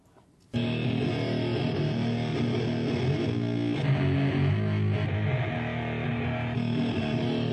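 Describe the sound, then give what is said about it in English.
A heavily distorted electric guitar, played through a distortion pedal into an amp and speaker cabinet, kicks in after a brief quiet moment, playing thick, sustained chords with a gritty, saturated amp tone that stays loud and steady throughout. “It's similar because he was using a distortion pedal, actually, so it kind of limits the difference.”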